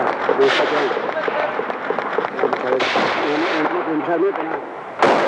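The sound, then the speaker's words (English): Steady bursts of automatic rifle fire crackle through the whole scene in Afghanistan, with heavier explosive booms and a sharp loud blast near the end, while voices talk indistinctly underneath. “Now, I mean, again, you yourself will know in Afghanistan, I mean, automatic rifle fire of a limited nature is not a particularly surprising thing. However, what happened was this continued, and then there was also some loud explosions.”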